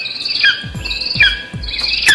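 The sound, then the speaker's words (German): A lesser spotted eagle calls three times in quick succession, each a sharp, high yelp sliding downward, clear over a steady buzz of insects. “Und der Schreiadler.”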